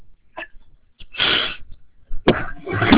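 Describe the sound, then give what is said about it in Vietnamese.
A few harsh coughs in quick bursts: a short catch, then a long rasping cough, followed after a pause by two more forceful coughs with no talking. The person coughing has had a cough for the past few days, leaving the voice slightly hoarse. “xin lỗi quý vị, mấy hôm nay chúng tôi bị ho cho nên hơi bị khan tiếng chút.”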